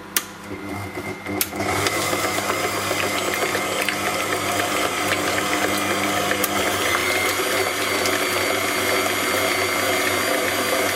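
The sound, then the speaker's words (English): A few clicks and clatters, then an electric mixer whirs steadily, mixing cream with about one and a quarter cups of sugar until creamy, a loud continuous motor drone with a slight rattling texture and no talking. “Now we just want to mix this until it's nice and creamy.”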